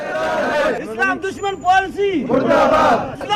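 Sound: protesters chanting slogans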